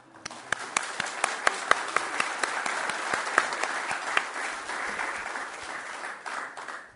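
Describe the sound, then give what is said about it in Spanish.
An audience at an energy-efficiency program presentation in Uruguay applauds steadily for several seconds, a dense wash of many hands clapping with a few louder, sharper claps standing out before it fades slightly at the end. “Yo un aplauso.”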